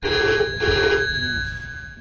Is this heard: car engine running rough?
no